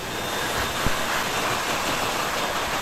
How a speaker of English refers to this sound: All right, I gotta do this. I gotta do this hand dryer again. Stand as close to the. No, don't do it because it's gonna hurt. Stand as close to the phone as you can.